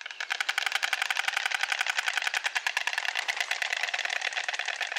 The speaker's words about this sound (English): Like this stork, recorded by a bird enthusiast in southern France.